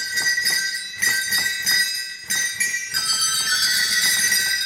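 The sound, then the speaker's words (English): Sleigh bells on a pipe organ, mounted to a piece of leather and shaken by a mechanical device, jingle continuously in a bright, shimmering cascade, in steady mechanical bursts that surge and restart roughly every second, loud, with no voices. “Those are actual sleigh bells mounted to a piece of leather that gets shaken by a mechanical device.”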